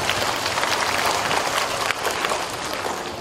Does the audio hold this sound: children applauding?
yes